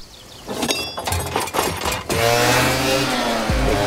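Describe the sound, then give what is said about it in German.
A few clattering knocks, then a small moped engine roars and holds a loud, buzzing drone as it pulls away carrying a passenger on the back, with its pitch shifting near the end. “Man packt sich das Mädel hinten auf sein Moped und fährt der Infanterie sozusagen hinterher”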